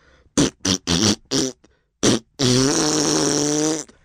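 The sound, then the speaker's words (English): A person blows several short, wet raspberries in quick bursts into someone's ear, then one long, loud buzzing raspberry that sounds like a fart. “I blew a large raspberry in his ear.”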